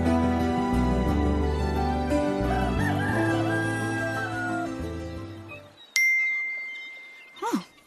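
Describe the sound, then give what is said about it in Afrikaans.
Music fades out, then a single bright, clear WhatsApp message notification ding rings out loud on a phone, followed by a brief sweeping chirp a moment later. “WhatsApp van Maurits.”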